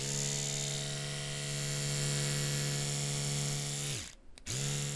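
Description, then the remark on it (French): An electric toothbrush used to sand wood drones steadily with a buzzing motor and a strong low hum, dips and stops briefly near the end, then starts up again. No one speaks. “Docteur Gros-Bidon, vous poncez du bois avec une brosse à dents électrique?”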